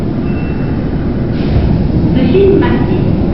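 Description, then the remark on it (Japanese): An express electric train bound for Matsusaka rolls into platform 1 of a station with a loud, steady low rumble and brief higher metallic squeals near the end. Indistinct voices are faintly audible beneath the noise. “電車が到着いたします。ホームの内側へお下がりください。”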